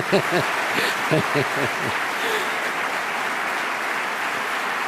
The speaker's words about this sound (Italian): Alla sua Chiesa, ieri l'applauso più, un tempo c'era l'applausometro, c'era adesso, ecco, sempre pericoloso, ma l'applauso più grande qui è stato per i volontari della Chiesa, ecco appunto.